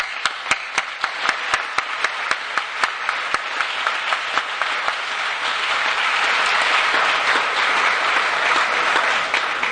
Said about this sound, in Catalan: També un fort aplaudiment per ell.